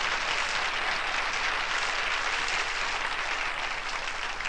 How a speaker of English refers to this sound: Well, go ahead and give the Lord a hand clap, not me.